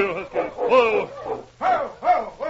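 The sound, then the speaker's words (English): A dog barks and whimpers, a run of four or five short, strained yelps and whines in quick succession, fairly loud, with no one talking. “The dog I thought it was, all right”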